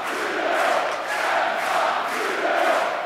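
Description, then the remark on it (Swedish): A large crowd at an ice hockey game between Luleå and Frölunda in Luleå murmurs steadily in a big reverberant hall, a dense wash of indistinct voices at a subdued, even level with gentle swells but no cheering or distinct speech. “Lite avvaktande stämning här i hallen, tycker jag. Det känns som att publiken är ganska präglas av nervositet.”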